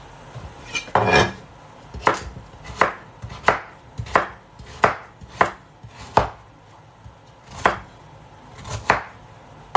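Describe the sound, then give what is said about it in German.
A knife slices half a carrot into centimetre-wide slices on a cutting board, about a dozen sharp thunks at an uneven, unhurried pace, fairly loud, with no talking. “Und mache mir dann auch so Zentimeter breite Scheibchen.”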